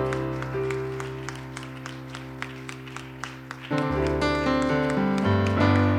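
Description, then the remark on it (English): An audience claps hands in a steady, even rhythm to welcome a visiting preacher, over sustained organ-like music, and the music then swells louder partway through while the clapping continues beneath it. “Why don't you welcome him with a hand clap?”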